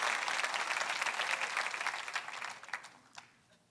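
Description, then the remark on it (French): An audience applauds in agreement, for Jonathan Edwards, a steady, dense patter of many hands clapping at once, then the clapping thins out and fades into a few scattered claps before stopping. “Si vous êtes d'accord, donnez une bonne main d'applaudissement.”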